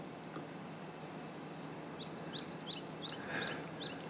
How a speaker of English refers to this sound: Oh man, it's so nice here with the birds.